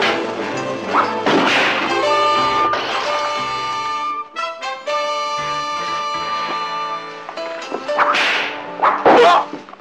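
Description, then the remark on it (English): Sharp whip cracks and lashing smacks burst out at intervals over loud, brassy dramatic music, with a dense flurry of hits near the end and no talking; a villain called Whip is whipping Mr. Smart. “Smart, I am going to whip you within an inch of your life, unmercifully.”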